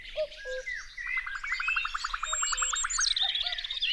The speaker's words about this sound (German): Also ich finde, wenn die Vögel zwitschern, dass dann das richtig toll sich anhört. Bei uns sitzt immer eine Amsel auf dem Dach und die singt dann runter und das ist dann auch ganz laut.